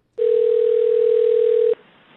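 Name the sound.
telephone line ringing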